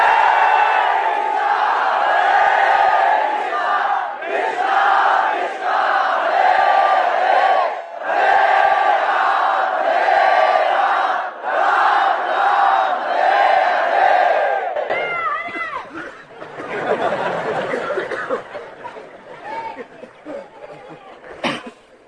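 A crowd of about 2,000 devotees at a yatra loudly chants the holy name in unison, voices rising and falling in repeated phrases with brief pauses, then breaking into looser, scattered calls toward the end.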